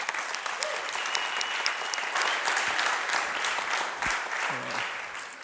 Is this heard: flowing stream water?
no